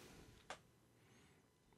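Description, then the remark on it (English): A single quick, sharp sneeze bursts out once against a quiet, faintly hissing background, with no talking around it. “Bless you. Excuse me. I must have a weakness to yellow pollen or something.”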